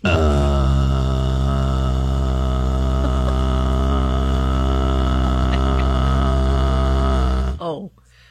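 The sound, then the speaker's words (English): A voice imitates white noise with a loud, steady, low buzzing drone held for about seven seconds without a break, then cuts off abruptly with a brief downward slide in pitch. “Go ahead and record this sound and use this as a white noise.”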